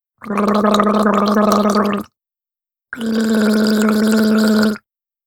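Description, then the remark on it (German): Someone gargles with a glass of water to form the uvular R in two loud bursts of just under two seconds each, separated by a brief pause: a voiced, low, bubbling rattle with a steady buzzing tone. No one speaks. “Wem das zu kompliziert ist, der kann mit einem Glas Wasser gurgeln.”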